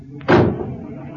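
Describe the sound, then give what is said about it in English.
A car door slams shut, one loud, heavy thud with a brief rumbling decay, after a faint click just before it. Nobody speaks. “Shut the doors.”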